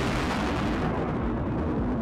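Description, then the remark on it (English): A volcanic eruption blast roars continuously, a loud, dense wall of rumbling noise with deep booming low end that barely lets up. No voices are present. “Now, we all know volcanic eruptions can get pretty loud.”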